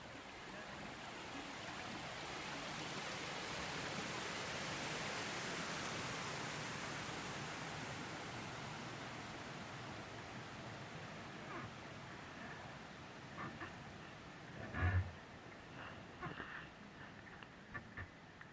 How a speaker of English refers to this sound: We are on Bristol Harbourside on the dock. Yeah.